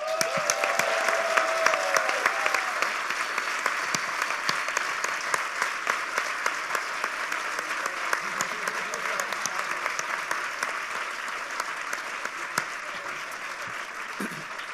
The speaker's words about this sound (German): weil ohne die ganzen Leute, die hier für lau oder wenig oder nix oder Bier oder sonst was schuften und das an den Start bringen, die sind eigentlich hier zumindest heute die Helden und denen gehört nochmal so ein richtig fetter Applaus.